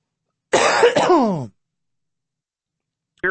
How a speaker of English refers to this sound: Yeah, I had to take a little cough break there.